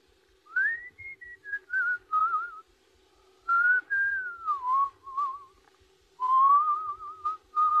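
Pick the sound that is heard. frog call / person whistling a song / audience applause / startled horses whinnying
person whistling a song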